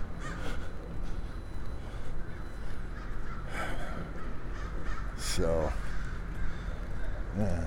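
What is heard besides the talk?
crows cawing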